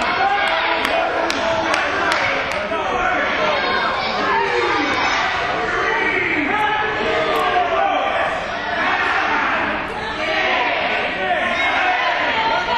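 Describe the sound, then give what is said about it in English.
A large wrestling crowd chants a count together while a wrestler is out of the ring and the referee is not counting, reaching eight, in loud, rhythmic bursts, a dense roar of voices and shouts that stays steady and full for the whole stretch. “Well, the crowd's counting.”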